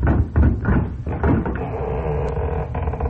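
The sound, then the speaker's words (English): At night, someone answering visitors' knocking opens a door with a series of low wooden knocks and rattles, followed by a steady creaking, scraping sound that drags on for a couple of seconds. No one speaks. “Here comes somebody to the door.”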